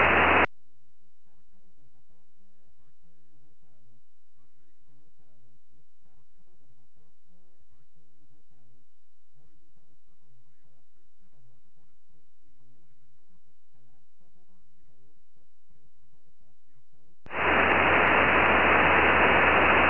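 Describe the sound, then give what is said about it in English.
Amateur radio static hisses briefly, then a faint, garbled voice calling on the band drifts through heavy man-made interference before a loud, steady wash of white-noise static takes over at the end. “Okay, there's a lot of QRM.”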